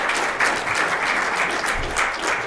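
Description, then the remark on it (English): An audience claps together in dense, steady applause during a sermon about God, staying fairly loud and even throughout, with no voices rising above the clapping. “Let's clap. Let's put our hands together.”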